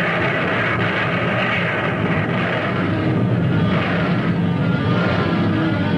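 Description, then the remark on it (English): A dense, unbroken roar of naval gunfire in battle, the heavy blasts blurring into one loud, steady rumble with no pauses and no voices. “Our guns have really been speaking up, and it looks like they're much more than just big talkers.”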